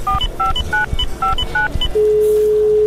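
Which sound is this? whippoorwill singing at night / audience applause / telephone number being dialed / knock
telephone number being dialed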